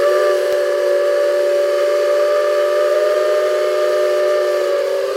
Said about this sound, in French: Alors, c'est quoi ? Ouais, un train. Ouais, un train. À vapeur. Locomotive à vapeur, ouais.